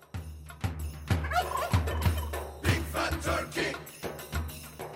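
Turkeys gobble over and over in rapid, overlapping bursts, a loud chorus of warbling calls that keeps going for the whole stretch without any talking.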